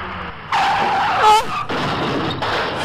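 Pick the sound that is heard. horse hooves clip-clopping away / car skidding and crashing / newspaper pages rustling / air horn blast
car skidding and crashing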